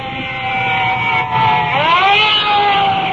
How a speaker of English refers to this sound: And looking over my shoulder, additional fire trucks are pulling up and are coming in directly behind us. Well, I can hear their sirens, so we'll just stand by.